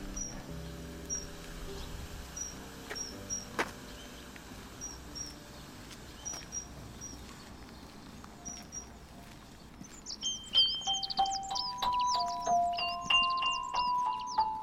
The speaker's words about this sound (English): I can hear a dunnock singing at the south end of the meadow here. It's quite a subtle fluting song. A kind of tilu-tilu.